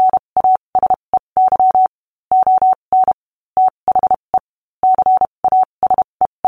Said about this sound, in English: Today he is remembered primarily for the code system that bears his name, Morse code. And everyone knows what that is.